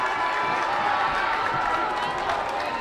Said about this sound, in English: And the fans come off, the cheerleaders come out, they come out of the stands, they're jumping, they're cheering. What a sight! What a sight!